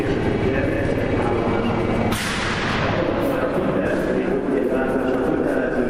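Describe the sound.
A train at a busy railway station as an Iranian family carries their mother off the train and into a wheelchair: a steady low rumble with a sudden loud burst of hissing air partway through, and a crowd's indistinct voices murmuring underneath throughout.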